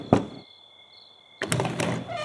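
A heavy thud on a door, a pause with a faint steady hum, then a burst of loud, rapid pounding knocks, with no voices, as someone demands the door be opened.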